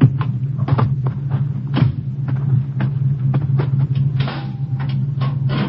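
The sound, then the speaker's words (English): A large metal gate at the entrance to an estate swings open with a series of clanks and rattles, each sharp and distinct, over the steady low rumble of an idling car engine. “The big gates on the left.”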